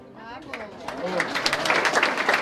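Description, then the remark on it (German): Applause for singers of unadulterated folk music in the parlours of the Stangelwirt inn swells from a few scattered claps into steady, loud clapping by many hands, with a voice briefly audible at the start. “Applaus für die Sänger der unverfälschten Volksmusik in den Stuben des Stangelwirts.”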